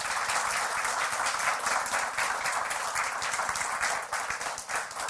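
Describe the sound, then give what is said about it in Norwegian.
Steady applause from an audience thanking speakers after an introduction, many hands clapping densely and continuously for several seconds at a fairly loud level, tapering slightly toward the end. “Vi gir en applaus videre.”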